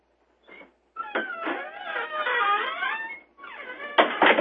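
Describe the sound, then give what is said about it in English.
A door creaks open during a committee meeting, with a long, wavering, high-pitched squeal from its hinges, preceded by a brief squeak and ending in a louder burst of creaking. “That's a sound effects tape door. That's a great sound.”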